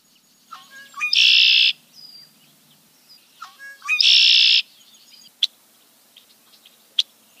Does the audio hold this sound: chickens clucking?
no